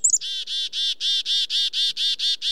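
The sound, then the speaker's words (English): A bird gives a rapid, steady series of about ten loud, buzzy calls, evenly spaced, with no voices or other sounds around them. “calls are understood by dozens of other species, including birds and birders.”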